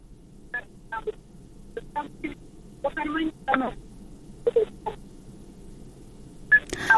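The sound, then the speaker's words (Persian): A string of short telephone dialing tones, about a dozen beeps in uneven bursts, clear over a low background hum, ending with a louder click-like burst, as a radio call-in show's technical staff try to reconnect a listener whose phone call was cut off. “ما باز هم همکار تکنیکیم کوشش میکنه که شنونده را با خود داشته باشیم.”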